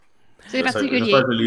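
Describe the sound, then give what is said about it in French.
After a brief silence, a voice lets out a sustained, warbling vocal cry imitating a werewolf-owl, loud and wavering in pitch for about a second. “Il y a un dieu qui essaye de dire c'est quoi le cri d'un hibou garou.”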